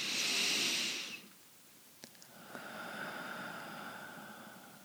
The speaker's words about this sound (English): Breathing in through the nose and out. Just letting go of everything that happened the moment before. And breathing again in.